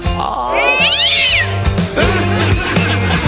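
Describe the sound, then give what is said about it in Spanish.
A black cat lets out a loud, drawn-out yowling meow that rises and falls, with a strained, caterwauling quality, in a home kitchen, over a low, steady background hum. “adentro de la cocina me encuentro con un gato negro”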